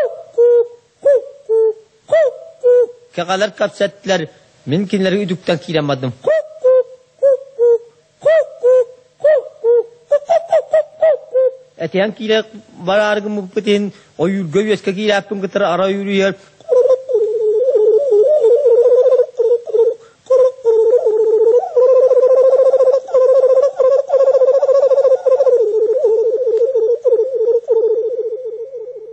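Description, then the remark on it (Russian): A man sings a Yakut hunter's song imitating bird calls: rhythmic short hooting notes, rapid chattering bursts, then a long wavering, warbling tone, sung fairly loud with no accompaniment. “А вот еще образец якутского пения – песня охотника, подражание голосам птиц.”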